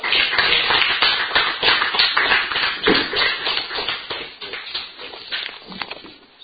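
Audience applause at a meeting for two people who have just shared: many hands clapping in a dense, steady patter of sharp claps that holds for several seconds and gradually thins out toward the end.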